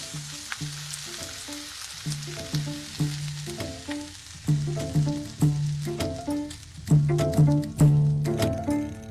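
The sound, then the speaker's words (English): Food sizzles steadily in a hot pan on a home stove, a constant crackling hiss, while low, uneven clunks and scrapes of stirring repeat throughout. No one speaks. “I'm able to come to my own stove, able to go in my own refrigerator, able to do whatever I want.”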